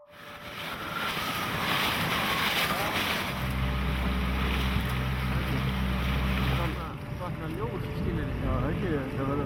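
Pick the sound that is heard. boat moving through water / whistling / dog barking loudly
boat moving through water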